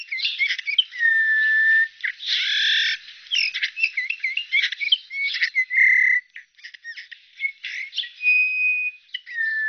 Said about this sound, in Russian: Однако этих веселых красногрудых птиц мы видим все реже. И записать голос снегиря тоже редкость.